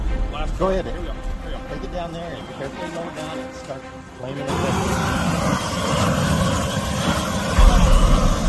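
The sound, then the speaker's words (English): A man talks, then the propane torch of a Grill Blazer grill gun, its handle squeezed for a blast, bursts into a loud, steady roaring hiss that continues to the end, surging briefly louder near the close, on a windy day. “Now what you have to do is you have to squeeze this handle. Squeeze the handle. Like this. Get a blast.”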